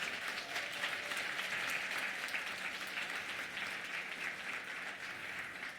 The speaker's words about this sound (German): Und das machen wir mit der Sabine Simon. Auch einmal Applaus für Sabine.